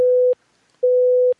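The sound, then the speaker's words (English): A telephone busy signal on a call that won't go through: two flat, steady electronic tones pulse on and off with a brief silence between them, loud and clear with no voices. “I'm trying to call back and the thing won't go through”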